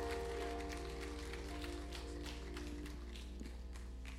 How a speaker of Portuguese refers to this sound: Será que você pode mais uma vez aplaudir aquele que é digno de receber louvor, adoração, exaltação?